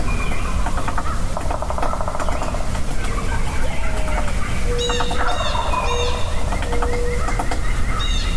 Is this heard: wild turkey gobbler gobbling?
yes